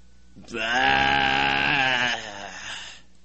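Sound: imitated sheep bleat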